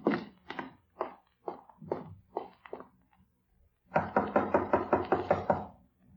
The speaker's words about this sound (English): When there was no answer to their knocking, they opened the door and stepped into the room together.